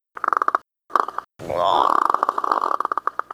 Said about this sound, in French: Tu vois, ça, c'est un mélange complètement du corbeau avec la voix